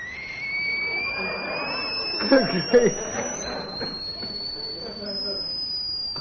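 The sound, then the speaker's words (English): A long, steady whistle of amazement glides slowly upward in pitch for several seconds, with a brief voiced murmur or chuckle breaking in partway through. “She whistled in amazement.”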